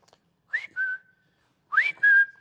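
A man in a store whistles a two-note call signal to find his wife: a quick upward slide followed by a held steady tone, repeated after a short pause. Clear, with no talking.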